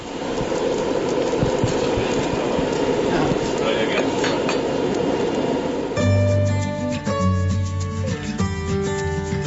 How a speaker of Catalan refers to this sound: engega la farga per escalfar motors i així poder començar a forjar.